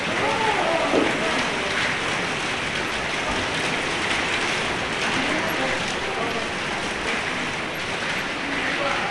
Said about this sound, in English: we're getting some rain now, a little bit of hail.